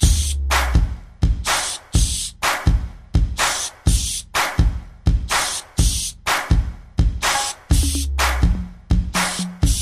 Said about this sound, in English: Spray the glade.